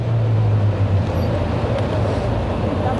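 Steady, dense rumble of cars moving around Place de la République, a busy open square, a continuous wash of engine and road noise with low droning tones and no clear pauses.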